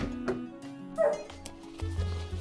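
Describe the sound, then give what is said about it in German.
A happy dog barks several times in short, irregular bursts, mixing sharp yips with a few whimpery notes, over a low, steady background hum. “Der Hund freut sich.”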